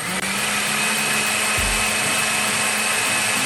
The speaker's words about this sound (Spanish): Ahora, añadimos la gelatina disuelta y volvemos a licuar unos segundos más para integrar bien.